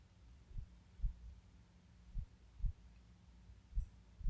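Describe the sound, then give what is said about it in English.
A muffled human heartbeat, low, thumps in steady lub-dub pairs over a soft constant hum, heard with an ear pressed to the center of a chest. Three beats pass, slow and even. “Can you make out my heartbeat?”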